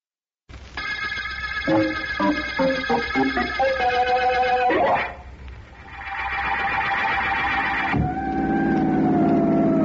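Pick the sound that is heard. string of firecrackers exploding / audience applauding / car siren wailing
car siren wailing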